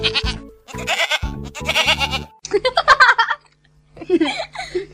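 A run of loud goat bleats, three or four wavering cries in quick succession, followed by shorter, higher chattering bleats after a brief pause.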